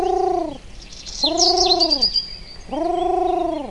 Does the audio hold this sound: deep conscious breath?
no